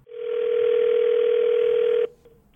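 A telephone ringback tone on an outgoing call: one steady, mid-pitched electronic burst lasting about two seconds, then cutting off to near silence. No one speaks.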